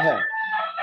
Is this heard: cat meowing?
no